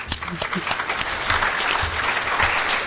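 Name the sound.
audience clapping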